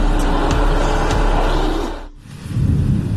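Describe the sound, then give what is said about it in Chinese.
A heavy truck engine rumbles steadily with broad low-end noise, dips briefly for a moment, then resumes with a deeper, throbbing drone as it drives on, fairly loud. “开送卡是最有意思的工作， 我那卡车。”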